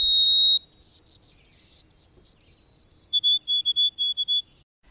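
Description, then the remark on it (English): A white-throated sparrow whistles its clear, pure-toned song: a long opening note, a step up, then a series of repeated triplet-like notes that drop slightly lower in pitch toward the end. “That's the white-throated sparrow.”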